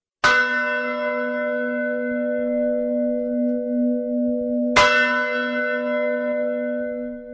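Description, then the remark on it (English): Two deep, resonant church bell strikes about four and a half seconds apart, each ringing out with a long, humming sustain that fills the gap between them. The bells ring from the Gothic bell tower of Sázava Monastery in the town of Sázava. No voices are present. “Sounds of bells echo across the town of Sázava from the lofty Gothic bell tower.”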